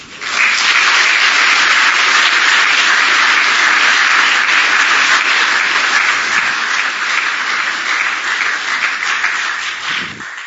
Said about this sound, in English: Wow. I am very thankful for all the people who shared tonight. So let's give them a round of applause again.